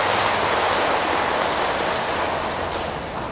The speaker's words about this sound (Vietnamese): Thì xin cho một tràng vỗ tay thật lớn để tán dương tinh thần này.